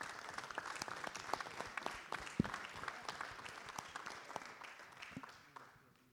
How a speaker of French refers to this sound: Donc merci beaucoup, parce qu'il y a eu beaucoup, beaucoup de choses de faites, et je crois qu'on peut en effet l'applaudir.